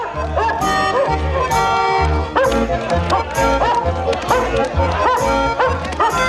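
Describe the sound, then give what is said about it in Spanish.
A dog barks in short, regular bursts, clear, over loud, lively festive music that plays throughout, at a sailors' party on the deck of a sailing ship. “Un perro corre feliz entre ellos.”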